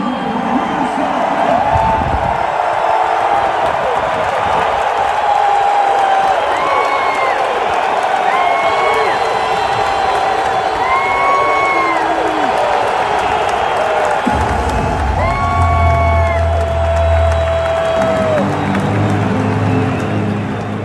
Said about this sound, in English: Doug Peterson reciprocated. He had the play chart in his hand, and he was applauding back to the fans. Got a very nice ovation. Yep. It was tremendous.